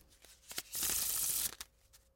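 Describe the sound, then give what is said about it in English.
A deck of playing cards is riffle-shuffled: a few quick taps, then a dense, papery whirr of flicking cards lasting under a second, ending in soft clicks as the deck settles. “Now imagine that they can shuffle those decks of cards 439,000 times per second.”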